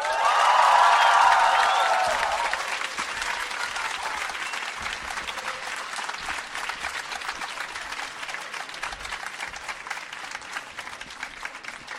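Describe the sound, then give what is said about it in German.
A large audience in a hall at a book event bursts into loud applause with cheers and whoops in the first couple of seconds, then the dense clapping continues steadily at a slightly lower level throughout. “Ein Applaus bitte”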